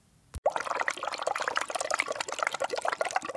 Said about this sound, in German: Ein großer Fisch blies langsam Luftblasen aus, die mit einem leisen Plopp zerplatzten.